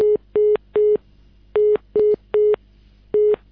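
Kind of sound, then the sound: signal or alarm, telephone busy tone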